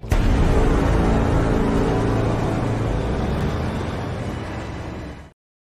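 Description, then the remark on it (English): A loud car engine sound effect roars steadily for about five seconds, a dense rumbling drone that eases slightly before cutting off abruptly. No one speaks. “Send in the car.”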